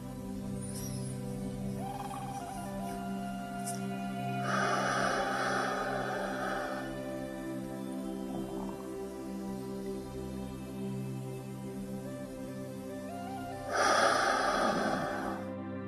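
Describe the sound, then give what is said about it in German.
Slow, deep breaths in a guided breathing exercise: two long airy breath sounds, breathing in as deeply as possible, holding the breath, then breathing out completely, over a soft, steady musical drone. “Wir holen nun dreimal ganz tief Luft, atmen so tief als möglich ein, halten den Atem und atmen vollständig wieder aus.”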